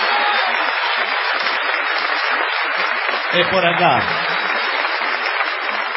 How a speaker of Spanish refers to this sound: Aquí estamos en Rosario, en el Teatro Broadway, donde ha llegado muchísima gente, la mayoría por error. Vamos a tributar una gigantesca ovación